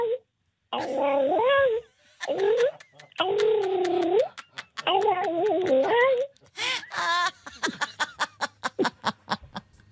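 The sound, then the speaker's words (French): A human voice mimics tomcats caterwauling in heat: a series of drawn-out, wavering yowls rising and falling in pitch, followed by a rapid run of short, breathy chuckling bursts. “Et puis il y avait aussi les matous amoureux.”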